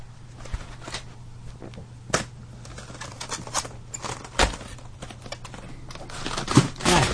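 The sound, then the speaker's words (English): CD cases that were just knocked over clatter and clack as they are picked up: an irregular series of sharp plastic knocks, some louder than others, over a steady low hum, with no one talking. “Ooh, I just knocked over some CDs. All right, let me pick those up.”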